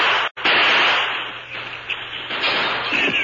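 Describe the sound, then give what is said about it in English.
Loud gunfire, with bullets whining through the open window of a shack, fills the whole stretch: sharp, harsh cracks over a dense noisy roar, with one brief break early on and no voices. “As bullets whined through the open window, Dude jumped.”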